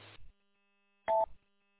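A brief burst of radio static cuts off, then after a pause another static burst carries a short two-tone electronic beep from a repeater, ending in a quick squelch tail.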